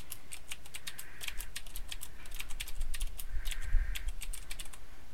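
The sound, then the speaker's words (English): Rapid, clicky typing of a sentence on a DAS mechanical keyboard with Cherry MX Blue switches, sharp crisp keystrokes in uneven bursts, with no voices. “It is a blue cherry switch, which is the noisiest of them, but is also one of the better ones for repetitive stress injury.”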